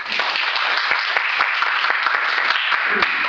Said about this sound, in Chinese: 我们掌声欢迎他啊！